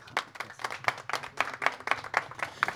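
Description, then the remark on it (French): Audience applause: a small group clapping in quick, steady bursts, moderately loud, with no voices over it. “on peut l'applaudir.”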